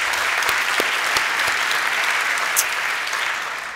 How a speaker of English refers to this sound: So let's go for a round of applause.